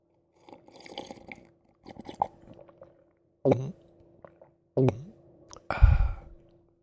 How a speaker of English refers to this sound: Hold on, I'm just going to take a sip of my beverage.